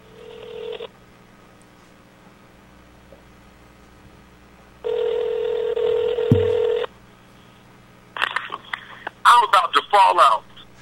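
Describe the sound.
A phone call being placed live on the air during a radio show: a short steady ringing tone, a pause, then a longer ring, followed by a tinny, phone-filtered voice picking up and talking.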